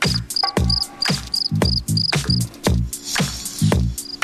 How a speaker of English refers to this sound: No, you're supposed to cut the music, not the crickets.